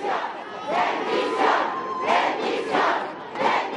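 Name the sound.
crowd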